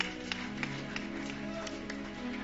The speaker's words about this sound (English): How many of you have been blessed so far? Give Jesus a clap offering once more.